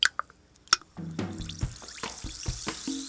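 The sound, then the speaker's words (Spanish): Topo Chico sparkling mineral water, from the springs of Cerro del Topo Chico in Monterrey, pours into a glass with a rising gurgle, then fizzes and crackles steadily as bubbles burst, fairly quiet, with no voices. “Es refrescante y burbujeante. Tiene minerales curativos.”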